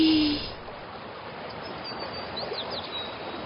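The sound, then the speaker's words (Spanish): A steady, soft rush of flowing river water runs continuously throughout, with a few faint bird chirps sounding briefly in the background. “Doña Lucía va hasta el río. Se agacha para beber y...”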